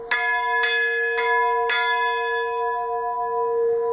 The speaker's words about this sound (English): And when you hear it rung, it really sounds like, you know, it sounds like an old church bell. It's just absolutely incredible. You feel like you could be out in the fields of England or something. It's got this beautiful sound.